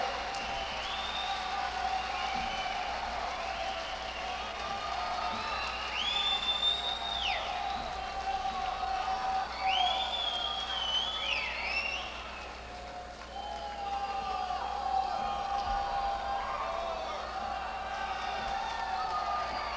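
An audience applauds and cheers a band after its music without a break for about twenty seconds, a dense wash of clapping with high whistles and whoops rising over it now and then.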